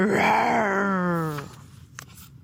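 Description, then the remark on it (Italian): A human voice imitates a disappointed lion roaring very loudly in a library: one long, loud, growling cry of about a second and a half, sliding downward in pitch before breaking off, followed by quiet breathy noise. “Il leone guardò i bambini, poi guardò la signorina e i suoi libri chiusi. Deluso ruggì molto, molto forte.”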